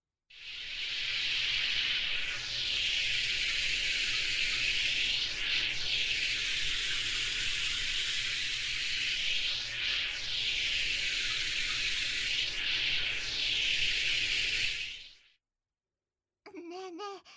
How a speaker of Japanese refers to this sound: でも次のサービスに行く前に 一回体を洗い流さないとですね。 そういうこと。それじゃあ軽くシャワーをかけるからね。